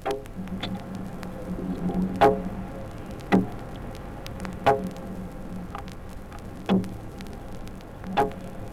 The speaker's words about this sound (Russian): У руленой зеленушки цоканье переходит в скрежет. Звуки зеленушки через стекло аквариума слышны простым ухом.